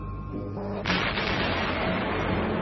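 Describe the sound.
A low, steady hum gives way to a sudden loud blast as a tower falls, followed by a sustained roaring, crackling rumble like an explosion echoing on, with faint indistinct voices in the background.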